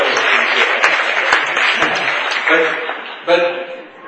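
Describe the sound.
An audience breaks into a dense burst of applause, many hands clapping at once, loud and steady before tapering off as a voice starts speaking over the end.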